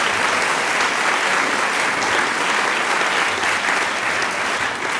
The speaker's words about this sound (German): Vielen herzlichen Dank für den freundlichen Applaus.